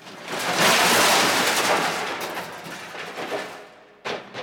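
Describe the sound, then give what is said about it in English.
A metal suit of armour more than 300 years old, standing in a hallway, crashes over when the Canterville ghost tries to put it on. It makes a loud, harsh clatter that rattles on for a few seconds and slowly dies away, followed by one last sharp clank. “It had fallen over and made a loud noise.”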